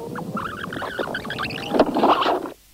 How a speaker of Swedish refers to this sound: Jag ska bara spola fram här då.